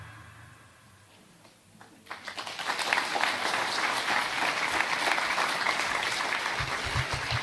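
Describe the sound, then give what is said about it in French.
An audience bursts into applause after a campaign video for the EPI church, the clapping starting quietly and swelling quickly into a steady, dense wash of many hands that continues strongly to the end. “Je vous avoue, j'avais pas noté si vous alliez applaudir ou pas, je savais pas comment vous alliez accueillir la vidéo.”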